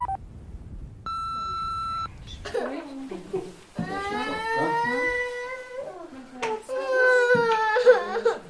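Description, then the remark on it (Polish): A brief steady electronic beep, then a child crying and sobbing over a phone call in long wavering wails broken by gasping breaths, loud, with a slightly thin, phone-line quality. “Daj mi dziecko do telefonu, bo go słyszę i daj mi dziecko!”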